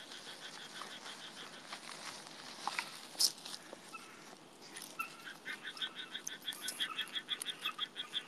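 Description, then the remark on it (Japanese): Frogs croak in a dense outdoor chorus, one call growing into a quick, steady run of rhythmic pulses toward the end, fairly loud, with no voices. “カエルが吠えてる。”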